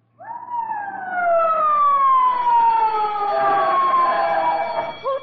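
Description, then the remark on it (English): A loud fire alarm siren, set off as a false alarm by breaking the glass of a fire alarm box, wails continuously, its tone sliding slowly downward in pitch over several seconds before a brief upturn at the end, with no voices. “They have to arrest you if you turn in a false alarm.”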